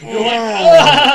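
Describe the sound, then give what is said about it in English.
A person's voice imitates the cat noise from the opening of the USA Network TV show Silk Stockings with one drawn-out, nasal, wavering yowl lasting about a second. It grows louder and shriller toward the end. “it was that cat noise.”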